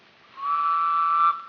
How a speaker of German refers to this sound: Lebet wohl, ein kurzer, schriller Pfiff.